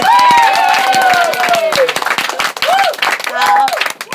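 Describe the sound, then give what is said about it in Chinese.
A crowd claps loudly and steadily for several seconds to welcome a lecturer, dense overlapping hand claps filling the room, with raised voices and whoops rising over the applause. “我们用最热烈的掌声欢迎”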